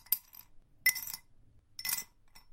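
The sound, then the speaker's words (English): Three bright, sharp clinking bursts of broken glass pieces from a broken glass box shifting and tinkling, spaced about a second apart, moderately loud with quiet gaps between. “Wow, that's a lot of glass.”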